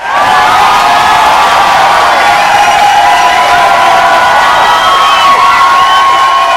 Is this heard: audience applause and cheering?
yes